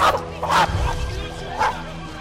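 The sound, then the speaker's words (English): A small Chihuahua lets out three sharp, high-pitched barks in quick succession, loud, with agitated yips and scuffling in between, as it grabs a snake in its jaws and wrestles it to the ground. “And the mighty Chihuahua swung into action, grabbing the snake with his jaws and wrestling it to the ground.”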